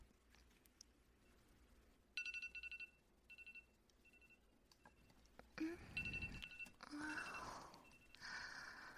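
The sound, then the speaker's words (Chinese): An alarm clock rings in a quick series of shrill, high-pitched electronic beeps, broken into short bursts, then gives way to louder rustling and breathy shuffling noises. “怎么闹钟就叫我？”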